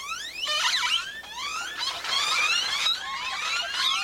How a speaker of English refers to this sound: But they're still more abundant in Central America and southern Texas, where their cacophony of calls helps create the local soundscape. Great-tailed grackles rattle, screech, whistle, and creak, sounding more machine than bird at times.